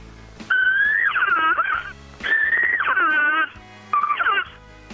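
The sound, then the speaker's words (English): Three loud, whiny elk cow calls growled through an open reed elk call to imitate a cow in estrus during the rut, around mid-September, with a rough growling edge, each rising then wavering and falling in pitch, the last one shortest, with brief pauses between. “And as the rut progresses, towards the middle of September, I'll start to growl into it, cause some estrus. Sounds something like this.”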